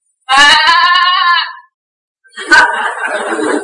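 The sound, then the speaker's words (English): A homemade, one-of-a-kind sheep call is blown, letting out a loud, wavering bleat lasting about a second, then after a brief pause a rougher, breathier second bleat follows. “I'm about to revolutionize the shepherding business with my one-of-a-kind sheep call. All you have to do is blow and your sheep will follow.”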